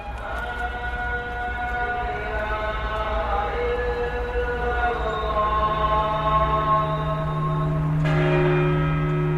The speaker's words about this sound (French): Le son qui m'a frappé le plus est d'entendre les cloches de San Marco à minuit. Tu peux te trouver à n'importe quel endroit de Venise, tu l'entends.